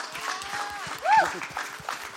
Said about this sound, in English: Amazing. Can we just give God a clap, a praise?